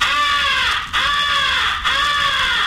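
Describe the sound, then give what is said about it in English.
A crow call is blown to imitate a crow in distress, the come-here call used to attract the attention of distant crows: three long, harsh, drawn-out caws in close succession, loud, with brief breaks between them and no talking. “First is the come here call, which is used to attract the attention of distant crows. It is a call of a crow in distress.”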